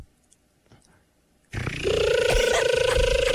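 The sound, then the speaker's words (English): After a brief hush, a person launches into a loud, sustained buzzing drone with a steady held pitch and rough, raspy edges, imitating a cicada's whine. “Can you do a good cicada noise?”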